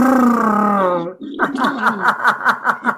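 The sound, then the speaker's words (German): A voiced lip trill imitating a horse snorting, made with the lips as part of a "Butter, Butter, Butterbrot" rhyme, buzzes steadily for about a second, then breaks off into a run of short, rhythmic vocal pulses at a quick, even pace. “Und dann, das kennst du mit diesem, mit den Lippen, so dem wie so ein Pferdeschnaufen.”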